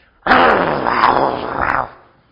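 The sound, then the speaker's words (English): A person imitates a snarling dog with one rough, throaty growl lasting under two seconds, loud, swelling slightly toward the end before cutting off. “But it's harder to love a dog that is snarling at you and biting at you and”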